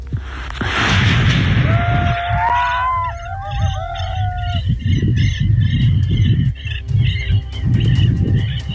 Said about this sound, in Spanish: Sí hubo disparos, lo que pasa es que no hubo heridos. Hubo mucho vehículo blindado, pero sí hubo disparos.